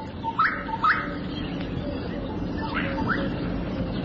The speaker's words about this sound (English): The gorgeous bush strike calls from a thorn tree.